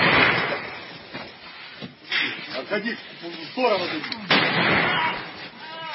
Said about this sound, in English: First, here's a video of them shooting men pulled off a truck in the legs.